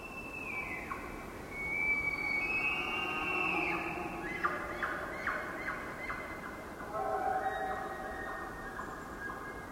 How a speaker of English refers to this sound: And if we were taking this hike in the fall, we would hear the bugling of the Roosevelt elk.